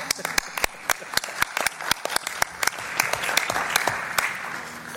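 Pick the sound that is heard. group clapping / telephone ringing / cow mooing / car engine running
group clapping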